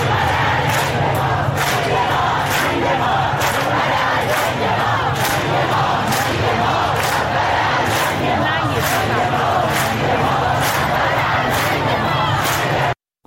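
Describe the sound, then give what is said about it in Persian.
A large street crowd on Valiasr Street in Tehran chants the protest slogan "death to the dictator" in unison, loud and rhythmic, with repeated sharp accented beats roughly every second, over a dense roar of many voices. “در خیابان ولیعصر تهران شعار مرگ بر دیکتاتور سر داده شد.”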